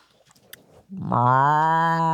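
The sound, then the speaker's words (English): A person imitates a cow's moo with a single loud, sustained, droning low note that begins after a short stretch of quiet rustling and holds steady to the end. “You do it. You do a moo.”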